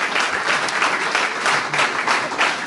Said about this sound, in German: Ich bin noch nicht ganz sicher, weil tosender Applaus, ich höre noch nicht du.